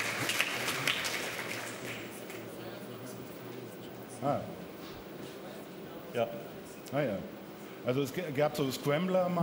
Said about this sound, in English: To applause and laughter from the audience.